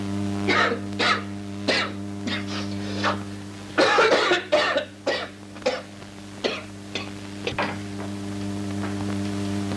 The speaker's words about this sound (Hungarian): Na igen, de akkor még nem méltóztatott ilyen csúnyán köhögni.